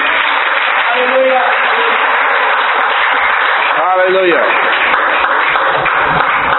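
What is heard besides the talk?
audience clapping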